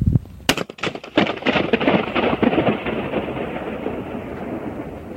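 A single sharp balloon pop, made by a man in an empty nuclear plant cooling tower, sets off a huge, rumbling wash of echoes, roaring like thunder and slowly fading over several seconds, with no voices.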